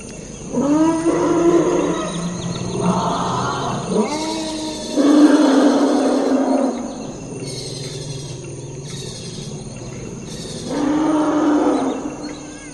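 elephants trumpeting

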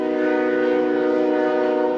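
freight train passing

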